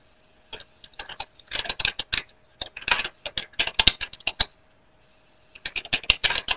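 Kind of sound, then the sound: household object, typing on a keyboard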